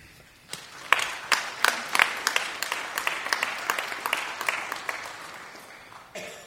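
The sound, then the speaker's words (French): An audience breaks into applause for the volunteers of the Banque alimentaire (food bank): a dense patter of many hands clapping, with a few sharper claps standing out, holding steady for several seconds before tapering off. “Et je crois qu'on peut les applaudir.”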